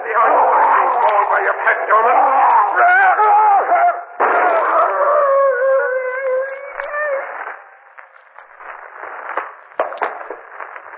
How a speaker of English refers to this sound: The wolf's coming for me.